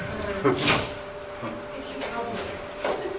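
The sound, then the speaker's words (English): The lock of a double-locked door rattles and clunks as someone works it open, with several short mechanical knocks and scrapes spread over a few seconds, moderately loud. “Rich went out and then he got locked out.”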